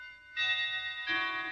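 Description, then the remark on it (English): A clock chimes the quarter hour with two resonant bell tones, the second slightly lower, each ringing on and overlapping in a clear, moderately loud sequence with no voices. “The clock, it struck a quarter past.”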